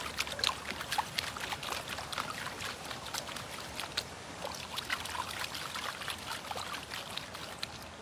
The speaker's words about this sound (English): The trap is really easy to clean up. You just splash it with some water and angle it into a pan.